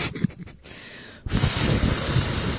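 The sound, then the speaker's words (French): In a timed 20-second imitation round with no gestures allowed, a voice imitates an automatic hand dryer in toilets: a few short breathy puffs, then a loud, steady rushing hiss blown through the mouth that holds on without a break to the end. “La bonne réponse était un séchoir à main automatique.”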